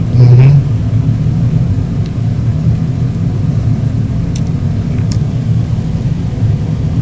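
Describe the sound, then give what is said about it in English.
A car engine idles steadily while being warmed up during a blizzard in Nebraska, a constant low continuous rumble with a brief louder burst at the start and a few faint clicks over the drone. “And I'm just kind of sitting here warming up the car.”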